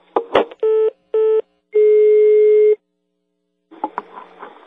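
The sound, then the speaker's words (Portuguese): A click and rustle of a telephone handset, then two short electronic keypad dialing beeps followed by one longer steady tone, ending with handling noise as the phone is moved. “Desliga o telefone que eu quero ligar pra ele, desliga!”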